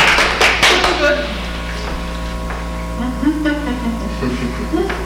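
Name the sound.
round of applause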